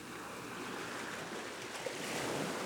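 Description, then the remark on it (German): Ocean waves wash steadily onto a sandy beach in a continuous broad hiss, swelling slightly louder toward the end, with no voices present. “Vielleicht nimmt jemand einen dieser kleinen Schätze mit nach Hause, bevor die Wellen ihn wieder ins Meer zurückspülen.”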